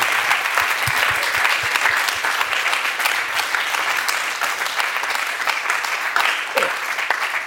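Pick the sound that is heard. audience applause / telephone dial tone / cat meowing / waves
audience applause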